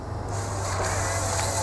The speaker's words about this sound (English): Then the chainsaw quickly slices through the tree